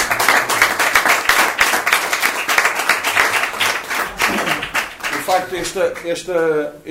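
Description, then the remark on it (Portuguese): An audience claps steadily in a dense, continuous burst of applause lasting several seconds, with voices rising over it toward the end, applauding everyone's good wishes. “Podemos bater palmas aos votos de todos eles.”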